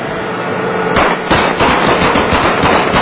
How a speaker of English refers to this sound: They shoot the car.